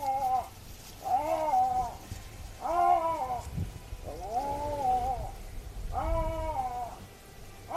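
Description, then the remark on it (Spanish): An Iberian lynx calls repeatedly: five drawn-out, cat-like wailing mews, each about a second long, spaced at a steady rhythm and fairly loud against a low background rumble. “Bueno, si escucháis esto y estáis por la zona, estáis por Doñana o estáis en la Sierra de Andújar o en los montes de Toledo, cuidado, es un lince ibérico.”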